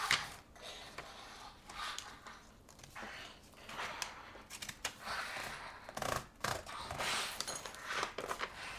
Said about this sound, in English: You're back to cutting again. Mm-hmm. That's the zigzag scissors you've got. It makes funny shapes, doesn't it?